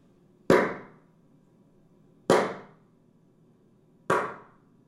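Three sharp, loud hand claps, evenly spaced about two seconds apart, made as a test sequence to excite and measure the reverberation of a room called Dubai after its acoustic treatment; each is followed by a short reverberant tail that rings out and fades before the next clap. No voices.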